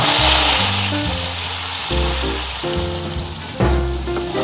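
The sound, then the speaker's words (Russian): Chicken feet bubble and sizzle in a pot before being stewed, a steady crackling hiss that runs unbroken for the whole stretch, with low sustained tones shifting underneath and no voices. “Слушай, так кипит, может, водички добавим?”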